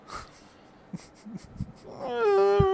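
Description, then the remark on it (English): A dog lets out a single drawn-out, high-pitched whine near the end, clear, after a few soft scattered knocks and rustles. No one speaks. “Shut the fuck up, dog.”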